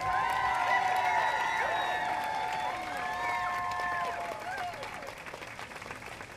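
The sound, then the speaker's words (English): A crowd at a Wisconsin event on women's equal pay applauds speaker Peg Lautenschlager steadily with dense, continuous clapping, mixed with voices and cheers over it, fading slightly toward the end. “One more round of applause for Peg Lautenschlager.”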